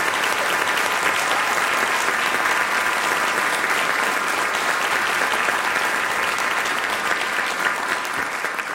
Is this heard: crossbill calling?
no